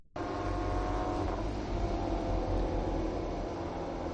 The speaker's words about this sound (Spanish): El sonido de las motos. En este momento Joan Mir está siendo felicitado por todos sus rivales, todavía sin bajarse de la moto.